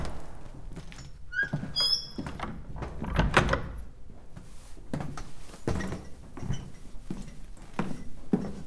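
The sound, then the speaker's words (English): A door on the opposite side of a room is opened onto a staircase, with a short high squeak of the hinge early on, followed by a series of rattling knocks and thumps from the latch and frame, with no one speaking. “Check the door on the opposite side.”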